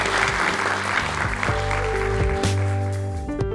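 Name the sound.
audience round of applause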